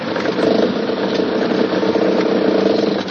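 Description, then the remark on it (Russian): A truck's engine idles steadily after the truck has pulled into the yard of a small red house almost fully covered in snow and stopped, holding a constant low drone with slight flutter and no change in pitch throughout. “Грузовик заехал во двор домика и остановился.”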